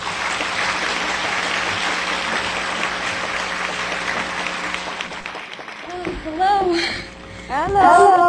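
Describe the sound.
A crowd applauds steadily for about six seconds, a dense, even patter of many hands clapping, then the clapping fades as a voice begins speaking.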